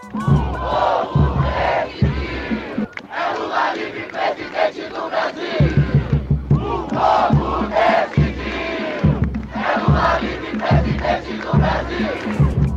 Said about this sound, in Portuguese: Eles chegaram animados para dar o boa noite ao ex-presidente Lula e aproveitaram para defender que a eleição de Lula é uma prioridade para a juventude. Eles também entoaram vários gritos coletivos, como esse que vamos ouvir agora.